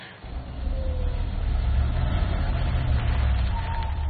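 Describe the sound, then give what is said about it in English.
An ambulance engine, with Jeff in the driving seat, rumbles steadily with a deep, heavy drone for about four seconds, a faint whine rising briefly above it, as the vehicle pulls to a stop. No voices. “The ambulance pulls to a stop, and Jeff, who's in the driving seat, turns to Walter, who's sitting next to him.”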